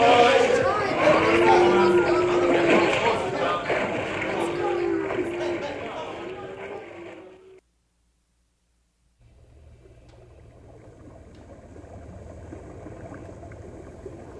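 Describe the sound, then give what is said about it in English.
Wagons crossing a river: loud, churning splashes and sloshing water mixed with indistinct voices, then a sudden brief silence before a softer, steady wash of moving water. “First, we have to get the wagons across the river.”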